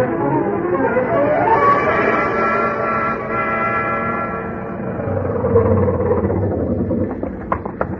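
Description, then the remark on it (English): A 1929 Ford car engine drives steadily as the car is driven fast, its loud droning hum with a rough low rumble and a horn-like tonal whine running throughout, ending in a few sharp clicks and rattles. No one speaks. “I jumped into my pants and into the landlady's car and got over there as fast as the 1929 Ford could take me.”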